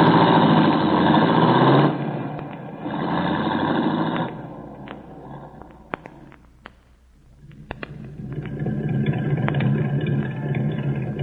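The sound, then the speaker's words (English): A light blue sports roadster carrying three people drives down an alley, its small engine humming steadily, the tone shifting and dipping briefly, with a few sharp clicks and knocks before the engine noise swells again. “She's with two men in a light blue sports roadster. They went down an alley and turned parallel to the next street.”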